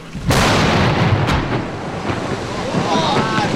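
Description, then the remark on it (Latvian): A sudden loud explosive boom as National Guard soldiers blast ice plates on the Ogre River, then a sustained roaring rumble of churning water and debris, with a second sharper crack about a second later as the noise slowly settles. “Zemesargi saka, ledus plātnes izdevies saspridzināt kā plānots, bet vai tas būs ko līdzējis, to varēšot manīt tuvākajās dienās.”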